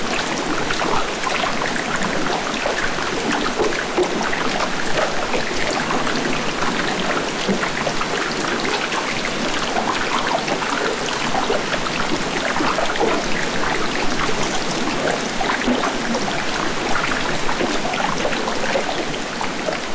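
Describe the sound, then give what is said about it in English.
Dense, continuous dripping and pattering of meltwater falling onto ice and water inside an ice cave at Old Palmer Station on the Antarctic Peninsula, recorded about 20 years ago. It is a steady rain-like wash of countless drops with the reverberation of the ice, no voices and an even loudness throughout. “Also, this is a recording from an ice cave at Old Palmer Station on the Antarctic Peninsula, which is long since gone when I recorded it 20 years ago.”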